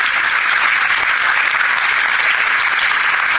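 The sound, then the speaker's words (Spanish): Steady, dense applause from an audience for a letter from Dr Isaac Paredes Cuervo, head of the first Cuban medical mission, held by the Hospital de Ojos; a loud continuous wash of many hands clapping with no pauses and no voices. “Vamos a pedir un fuerte aplauso para esta carta que quedó en poder de la dirección del Hospital de Ojos.”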